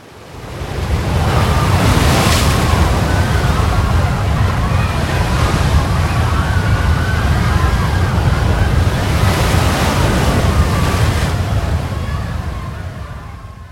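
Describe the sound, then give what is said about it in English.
Loud ocean surf rolls and crashes on a beach in a steady roar, with heavier breaking waves surging at regular intervals, plus some wind noise. “A giant wave is coming, a tourist shouted.”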